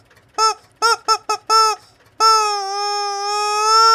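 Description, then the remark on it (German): A voice mimics a mournful siren, the special 'Quatschbrötchen-Sirene' of the Quatschbrötchen Express: five short, wavering wails in quick succession, then one long, sustained moaning tone that holds a steady pitch and swells slightly in loudness. “Aber wir haben ja noch eine ganz besondere Sirene. Ja. Extra nur für uns entwickelt.”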